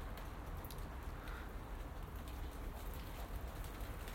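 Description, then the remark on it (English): Light rain starting to fall, pattering steadily, a soft continuous hiss of drops landing on surfaces, fairly quiet and even throughout with no voices. “Here cometh the rain.”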